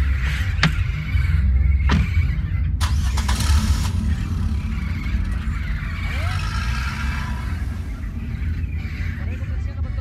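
A pickup truck engine rumbles steadily as the truck gets under way, with a few sharp clunks early on and faint bird chirps over the low drone.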